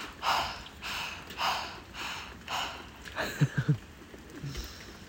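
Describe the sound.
A person with tongue stuck out pants like a dog: four slow, airy breaths in a steady rhythm, then a quick run of short, throaty huffs, fairly quiet with no talking.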